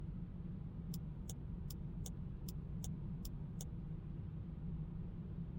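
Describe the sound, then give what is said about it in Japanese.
Steady low rumble of a car interior on a night drive as the car turns into a side street to stop. The turn signal clicks eight times at an even pace, then stops as the engine keeps humming. No one speaks. “あ、そうだ、ちょっと寄ってほしいところがあるんですけれど、そこの裏道に入って車止めてください。”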